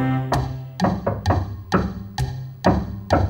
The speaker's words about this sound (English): Will you tap the fallboard now with me?